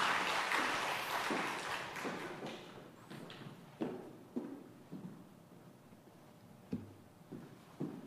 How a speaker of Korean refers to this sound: 아, 예. 박수를 받으니 기분이 좋습니다.